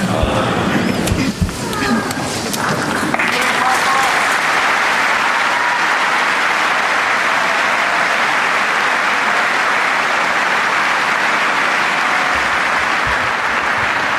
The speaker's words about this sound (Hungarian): Nagy lelkesedéssel és tapssal köszöntik a mai napon is az egyházfőt a jelenlevő zarándokok a 6. pálteremben, és ezzel véget ért a mai általános kihallgatás.